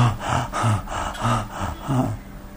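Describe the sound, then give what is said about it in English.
A person imitates heavy, labored gasping, about six quick, raspy breaths in a steady panting rhythm, fairly loud, with no talking, like an asthma attack. “It's like having an asthma attack or something.”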